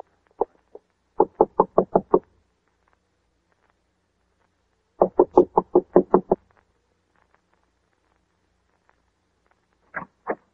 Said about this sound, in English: I'm going to knock on the door now and keep smiling to show we're friendly and let me do all the talking.